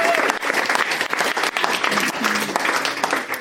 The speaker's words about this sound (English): Okay, round of applause for Karina Logan.